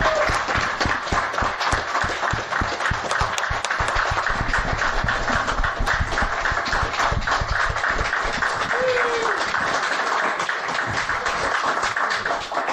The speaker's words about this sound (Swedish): Ja, så en applåd till alla som har arbetat med att förverkliga den här dagen.